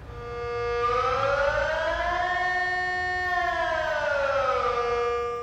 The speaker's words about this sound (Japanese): 警戒警報発令。すごい音が鳴っています。これは2月3日午後1時半、スイス全土に鳴り渡ったサイレンの音です。毎年1回、スイスでは必ずサイレンのテストをします。